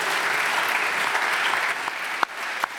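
Sustained applause for three speakers from an audience filling a lecture hall, a dense steady patter of many hands clapping at once, with a couple of sharper individual claps standing out near the end.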